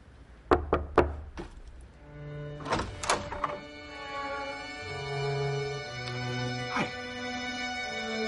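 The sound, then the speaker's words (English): A quick series of knocks on a door, about three sharp raps close together, then another cluster of knocks a couple of seconds later, with sustained tonal sounds ringing underneath and afterward. “Just knock, okay?”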